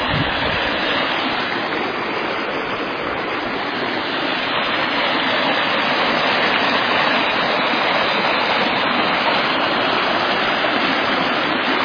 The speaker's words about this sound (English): There is the creek running along here.